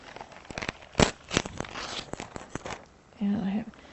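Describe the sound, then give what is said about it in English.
Crisp rustling and crinkling of paper sheets with several sharp tearing snaps in quick succession, then a brief voice near the end. “come and get your paper.”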